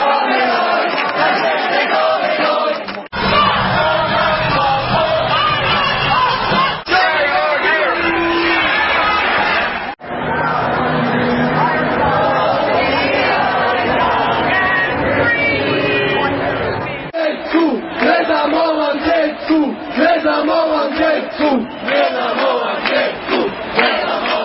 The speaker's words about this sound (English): Anti-vaccination protests took place in major cities across the world on Saturday as a backlash to the rising tide of mandates. Protests in Los Angeles, New York, London, Paris, Zagreb, Madrid, Canada, and several U.S. states were noted in the media.